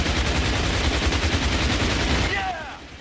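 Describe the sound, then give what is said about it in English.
Loud cannon fire rattles in a rapid, continuous barrage of impacts against a German supply train at Sataf for about two and a half seconds, then drops off as a brief high, wavering tone rises. “Cannon fire hits a train.”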